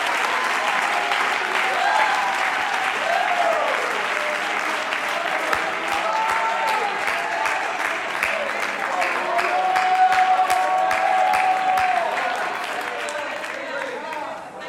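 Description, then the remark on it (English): An audience claps steadily with loud, sustained applause, mixed with scattered shouts and cheering voices that rise and fall throughout before tapering slightly at the end. “If that's you, would you clap your hands and shout with your voice?”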